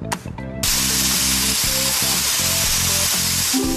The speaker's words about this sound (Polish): Kupujemy farbę, wlewamy do pistoletu i zaczynamy malować miejsca wskazane przez grę.